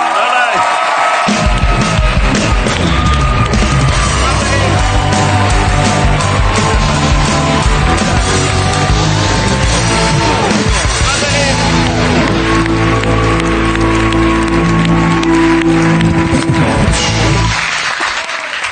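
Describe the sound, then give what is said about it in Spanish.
A studio audience on the TV show La Resistencia applauds and cheers loudly and steadily for about eighteen seconds to welcome a guest, with whoops rising over the clapping and music playing underneath, before the noise cuts off abruptly. “Primero aplauso”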